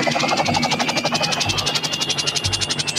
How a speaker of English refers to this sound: Helicopter's landing.